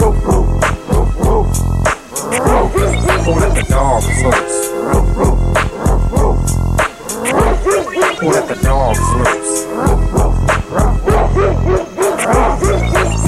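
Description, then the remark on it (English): Several dogs bark and yip loudly, a dense, overlapping chorus of sharp barks and high yelps that continues almost without pause, with a few brief gaps. “Let the dogs loose.”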